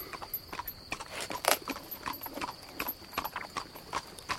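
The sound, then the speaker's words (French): Horse hooves clip-clopping in a steady, uneven rhythm of sharp knocks, with a faint jingle of tack and a constant high hiss in the background. “Avec mon cheval.”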